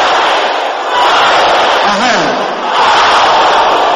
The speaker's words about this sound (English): Can I hear you shouting in the air?